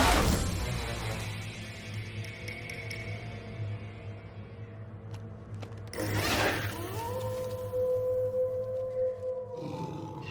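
A timber wolf howls once, its voice sliding upward and then holding a long, steady note for a few seconds over a low rumbling background, with no talking.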